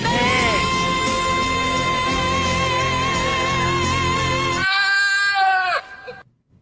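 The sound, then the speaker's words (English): A goat lets out a long, loud, wavering bleat that rises and falls like a sung note, sustained for several seconds over a busy background before cutting off abruptly. “What's a singing goat have to do with factoring?”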